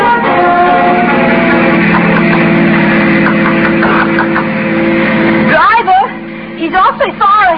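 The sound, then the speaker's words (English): A taxi's engine drones steadily, a continuous humming roar as it drives along following a long black car, then cuts out near the end as voices begin speaking. “Well, I'm going to get in that taxi and follow him.”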